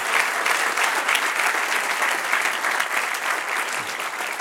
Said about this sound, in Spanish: Denle un aplauso al que reina. Aleluya.